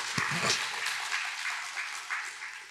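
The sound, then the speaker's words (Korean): A church audience at Yangjeong Church applauds steadily for its teachers during a teacher dedication service, a dense wash of many hands clapping at once that holds at a moderate level and fades slightly toward the end, with a brief low voice near the start. “우리 교사분들을 위해서 우리 뜨거운 우리 격려의 박수를 한번 하겠습니다.”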